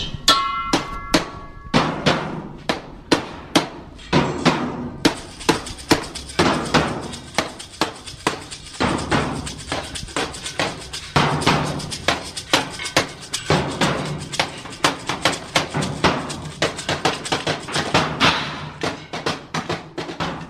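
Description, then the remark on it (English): Players of the Santa Cruz Trash Orchestra bang on homemade, dumpstered and found objects at a build day near the bike church: clattering, irregular sharp metallic hits, hollow thuds and ringing clangs piling into a loud, busy percussive racket with no steady beat. “Trash orchestra is a cacophony of various homemade, dumpstered, and found objects the players bang upon.”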